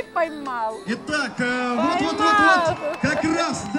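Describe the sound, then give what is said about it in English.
A rodeo crowd with signs shouts and cheers together in an arena for their teams as riders struggle to rope steers, a steady swell of excited crowd noise with individual calls rising above the din. “They've brought signs and they cheer for their teams as they struggle to rope steers in the arena.”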